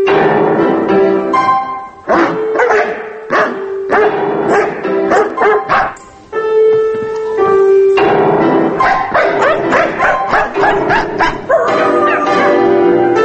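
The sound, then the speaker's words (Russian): A dog named Martin, bought as a puppy from a breeder, barks repeatedly in quick bursts, mixing sharp woofs with higher whining yelps, loud throughout with only brief pauses between volleys. “А потом мы узнали, что Артур Челенгаров, известный, тоже хотел купить именно этого щенка.”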